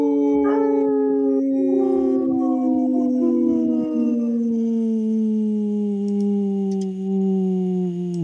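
A long, loud wolf howl holds steady and slowly slides downward in pitch. A second voice briefly overlaps near the start, and no one talks over it.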